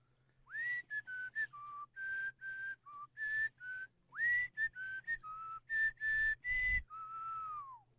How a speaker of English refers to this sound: Whistle a little bit for …